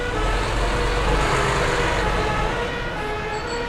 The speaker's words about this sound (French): Quand on marche, on a le temps de pouvoir un peu entendre les sons de la ville.